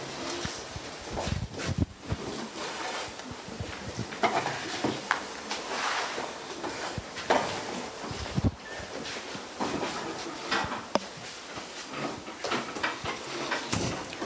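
Many front-row chairs scrape and drag across a hard floor at once as they are pushed back for people coming forward to pray, a busy, overlapping clatter of shuffling and knocks, with no one speaking.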